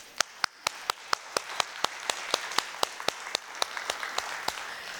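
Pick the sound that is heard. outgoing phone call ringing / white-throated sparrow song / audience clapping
audience clapping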